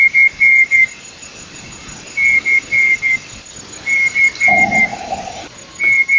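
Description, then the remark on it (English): A night parrot, a small, dumpy green desert bird of Australia, calls in hurried shrieks: quick bursts of three or four sharp, high whistled notes, repeated several times, with a briefer lower, harsher note partway through. No one speaks. “It's a small, dumpy green bird that lives in the desert and calls in hurried shrieks when flushed from the Spinifex.”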